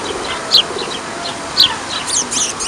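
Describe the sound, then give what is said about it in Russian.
Several birds chirp and call in short, bright bursts outdoors while feeding from full rubbish containers by two-storey houses on Geologov Street, among bottles, plastic cartons and glass. Two louder calls stand out against a steady background hiss and a busy chorus of fainter twitters. “Возле баков кругом бутылки, пластиковые тетрапаки, стекло, а с контейнеров кормятся птицы.”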